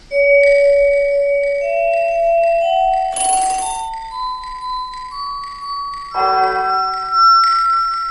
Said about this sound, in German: Das heißt, die Luftfeuchtigkeit kommt auf die Temperatur mit drauf, also der Hall-Effekt. Unterstützend haben wir dieses Tackern dazwischen, weil auf so einem Tack der Hall-Effekt besonders gut merkbar wird.